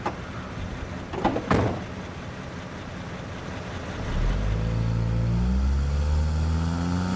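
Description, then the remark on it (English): Two car doors thud shut in quick succession as a man gets in to be given a lift. After a short pause the engine starts and revs steadily as the car pulls away, a low rumble rising in pitch. “Got a car here. Would you like a lift?”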